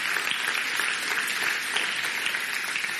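A crowd gives a hand clap for a family being thanked, clapping steadily, a dense, even wash of many hands with no pauses and no voices, holding at a constant loudness throughout.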